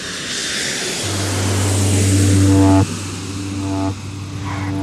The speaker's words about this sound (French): Les roues d'un avion touchent le tarmac de l'aéroport de Biarritz et glissent dans la nuit. Le jet privé arrive de Cartagène en Colombie.